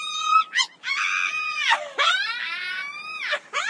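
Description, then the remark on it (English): A harpy, a vulture-sized creature with the head and breasts of a woman, perched on a ledge, screams in a string of loud, shrill, wailing shrieks with swooping pitch, unbroken except for brief gasps, and no talking. “If you're trying to stop us, then you better be ready to fight as well as scream.”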